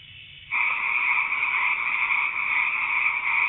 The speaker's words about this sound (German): Grillen und Frösche.